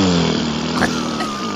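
A loud, sustained fart let out by a man running from the cops, a low buzzy rumble lasting over a second with a slight flutter and a pitch that wavers slightly, and no talking over it.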